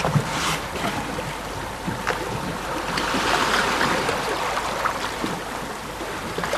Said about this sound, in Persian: پاروها داخل آب.